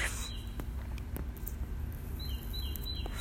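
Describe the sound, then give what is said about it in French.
A small bird sings faintly: a brief high chirp early on, then a quick run of bright repeated notes near the end, over a low, steady background rumble. “Et on entend toujours notre ami le petit oiseau.”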